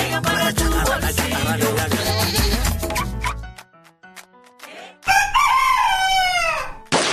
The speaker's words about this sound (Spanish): El gallo canta aunque la rama cruja.